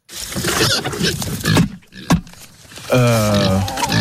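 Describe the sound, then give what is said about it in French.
A pig that is about to be fed grunts and snorts excitedly, a run of rough rapid noises, with a sharp snort midway and a long harmonic squeal at the end. “Le second, c'est un cochon qui est sur le point d'être nourri.”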